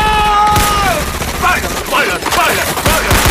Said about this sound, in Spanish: ¡Disparen a mí! ¡Disparen! ¡Mismo balazo!